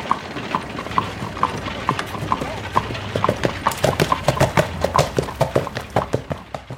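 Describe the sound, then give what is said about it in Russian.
Hooves clip-clop in a quickening rhythm as a horse breaks into a gallop, the sharp clattering beats growing louder over a low rumbling background. Cassius spurs his horse and gallops ahead to scout across burnt black land. “Пришпорив коня, Кассий поскакал вперед, на разведку.”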